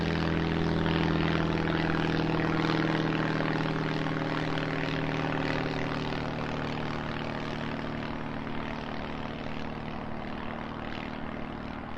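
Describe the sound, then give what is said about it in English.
A propeller research plane making flight measurements very low, around 20 to 30 meters above the sea ice surface, drones loudly and steadily, its engine hum holding a deep, throbbing tone for the whole stretch, with no voices. “we did some flight measurements very, very low above the sea ice surface, so around 20, 30 meters, and there were actually some polar bears that were quite frightened by our plane when we went along there.”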